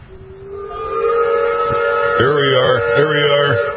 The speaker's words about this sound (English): You're gonna hear the rumble of the K-Fire Studios in Bismarck. Do you remember this from the past years? When the steam whistle kicks off the parade?